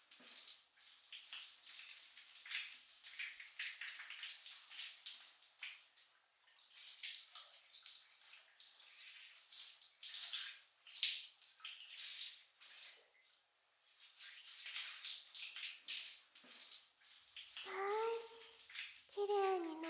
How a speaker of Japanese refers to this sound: それでは、体についている泡、流しちゃいますね。